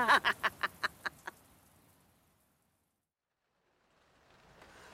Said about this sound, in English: And now it's raining again.